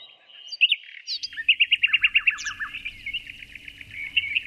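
A nightingale sings clear, with sharp whistles giving way to a fast run of repeated notes and rippling trills, while a low rumble murmurs softly beneath.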